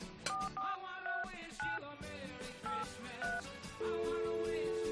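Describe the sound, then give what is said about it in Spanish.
A quick series of short dual-tone keypad beeps as a phone number is dialed to call chef Sergio Fernández of Canal Cocina on Christmas night, unevenly spaced, then a steady held phone tone, all over a busy background of noise. “Espera, vamos a llamar, vamos venga, a llamar venga.”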